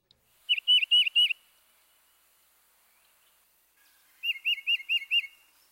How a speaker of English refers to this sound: Next, the tufted titmouse. When comparing the two-noted phrases, listen for the cardinal's purdy, purdy, purdy. And the titmouse's chiva, chiva, chiva.